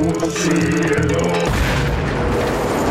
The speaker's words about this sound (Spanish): Jala el hito que cuelga de su espalda y desata la más poderosa explosión nuclear.